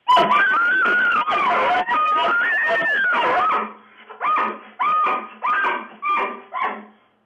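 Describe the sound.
Several family members imitate bull elk bugles with elk calls: a few seconds of overlapping, high squealing whistles rising and falling, then four shorter separate bugle-like squeals, loud.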